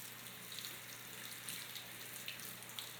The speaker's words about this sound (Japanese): そろそろ温まりましたかね。じゃあシャワーはこのくらいにして、タオル泡立てちゃいます。